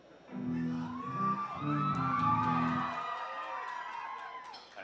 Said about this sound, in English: That was a weird moment for applause. I just want to acknowledge that. I'm trying to share something not too cool, and you guys want to applaud that. That's cool.